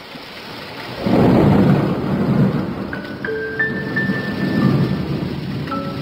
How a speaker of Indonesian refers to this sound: Beberapa hari ini, hujan turun tiada henti.